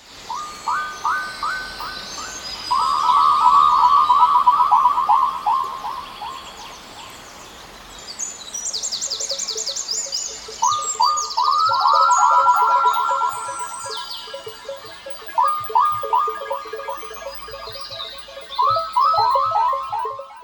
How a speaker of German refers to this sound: Also diese Abdrücke akustischer Art von den O-Tönen aus dem Neandertal, die dann durch elektronische Manipulation entstehen, die klingen zum Teil wie Frösche, obwohl gar keine da waren oder wenig da waren.